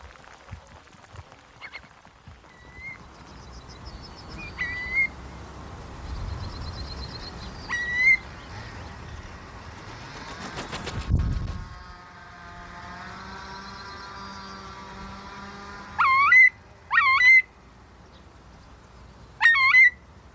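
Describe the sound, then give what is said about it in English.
A curlew, a wading bird, calls in scattered rising whistles from a field in heavy rain, ending with three loud, swooping cries, over a low steady hum and a brief rushing rumble partway through. “And I've never seen a curlew do that before.”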